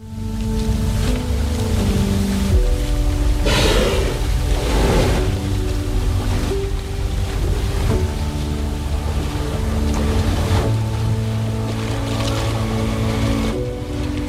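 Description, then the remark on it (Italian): A whale spouts at sea, with a couple of loud, breathy whooshes of exhaled air rising over a steady boat-engine drone and the wash of water. “Una mamma un po' più aggressiva di questa balena, insomma, che avete sentito così sbuffare.”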